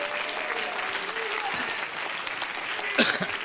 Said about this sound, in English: Somebody say praise the Lord. Clap your hands to him. Bless his name.